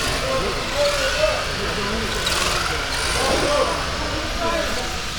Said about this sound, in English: Let's listen to the whine of the electric motors.